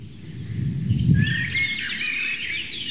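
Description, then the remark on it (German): Birdsong with bright, warbling phrases weaving above a low, steady rumble; a blackbird sings while a robin's thin, delicate notes trickle faintly underneath. “Währenddessen genießt ihr die Amsel, das ganz zart unterlegt ist vom Rotkehlchen.”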